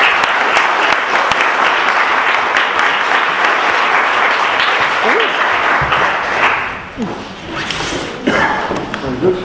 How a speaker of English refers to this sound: Thank you. A round of applause. Thanks for our panel.